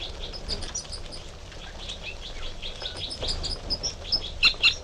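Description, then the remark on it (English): Two type 3 female birds in a direct confrontation trade short tooting notes and harsh fight calls, high-pitched and scattered at first, then sharper, louder bursts clustering toward the end, with no talking. “So, recording 5 minutes later, and there's another interaction between the two females with toots and fight calls.”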